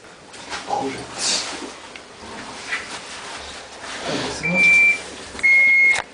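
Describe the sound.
A gas detector alarm at alarm level 1 sounds two loud, steady electronic beeps, each lasting about half a second, near the end, following muffled voices and rustling background noise.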